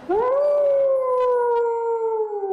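A single long wolf howl that rises quickly, then holds a steady, slightly falling tone for over two seconds, loud and alone, with no voices.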